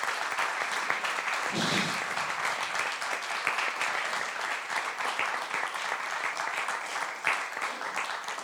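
Sustained applause from a crowd for Enrico Trevisi, Bishop of Trieste, after his speech, a dense steady wash of many hands clapping at even loudness for the whole stretch, with a brief murmur of voices underneath near the start.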